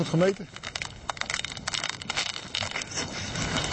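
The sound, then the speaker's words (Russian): Thin, dark, newly formed ice crackles and snaps in a rapid, irregular series of sharp pops while someone drills a hole to measure its thickness, about 4 centimetres, in December 2007, with a brief voice sound at the very start. “И то, что трещит хорошо, так и должно быть.”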